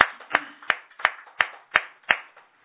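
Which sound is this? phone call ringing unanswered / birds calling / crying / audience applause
audience applause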